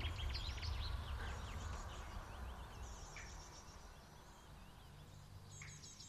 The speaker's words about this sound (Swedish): Gud vad stilla det är. Mm. Ja, det är en fantastisk oas. Ja, det är underbart. Och fågelsång.